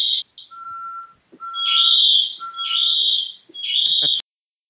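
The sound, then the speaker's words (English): An ADT in-house home security alarm blares in a repeating electronic pattern: loud, piercing high-pitched bursts alternating with shorter lower tones, three main blasts before it cuts off abruptly. No one speaks. “That was my in-house alarm system, and now ADT is going to call me any second.”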